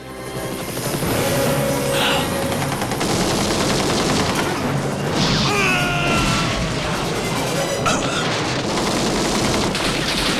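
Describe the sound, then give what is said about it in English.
Sustained, loud minigun fire from a helicopter rattles without pause, punctuated by heavy booming explosions erupting on a corrugated iron roof behind a running man and crashing debris, dense with a chaotic action-scene intensity. “spurred on by explosions that erupt inches behind him.”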